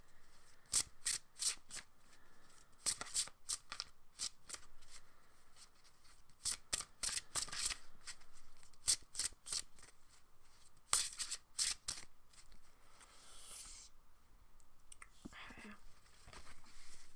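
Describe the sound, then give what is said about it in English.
A deck of tarot cards being shuffled: clusters of crisp, papery riffling bursts repeat in an uneven rhythm, with short pauses between, quiet overall and without any talking. “So I'm shuffling and I'm concentrating on the people that are listening to this.”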